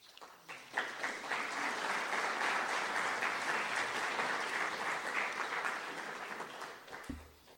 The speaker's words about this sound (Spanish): Nuevamente, despedimos con un aplauso a estos dos grandes personajes